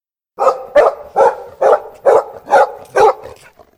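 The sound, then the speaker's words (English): A dog barks seven times in a quick, steady rhythm, each bark sharp and loud, with no voices or other sounds between them. “Hercules enters King Eurystheus's palace and suddenly the dog opens its eyes. Cerberus runs to the king.”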